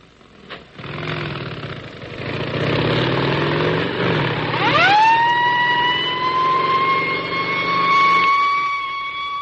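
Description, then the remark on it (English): A motorcycle police escort takes cholera vaccine to LaGuardia Airport, New York, in October 1947: sirens wind up from low to a steady high wail over rumbling engines, loud, with a vehicle roar underneath as the convoy passes; no one speaks. “Motorcycle escorts to LaGuardia Airport, New York.”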